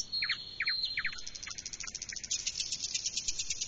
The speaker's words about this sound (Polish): Śpiewa tylko pan słowik, pani słowikowa nie. W tym przypadku śpiewa tylko pan słowik, tak? Rzeczywiście to są słowiki, które są samcami.